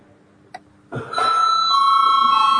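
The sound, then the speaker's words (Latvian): A chairperson's bell in a parliament chamber starts after a brief click and rings as one loud, sustained, steady tone that continues to the end, with no talking. “Lūdzu zvanu.”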